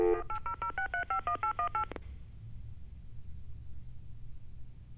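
telephone keypad dialing tones

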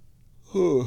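yawn

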